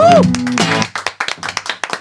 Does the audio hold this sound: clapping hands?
yes